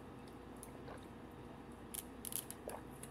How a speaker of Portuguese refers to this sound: Eita, que beber água é foda, hein?